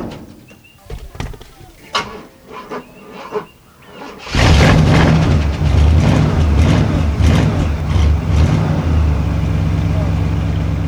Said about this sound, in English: Now it's my car. I'm gonna open the door and let you see what I got in here.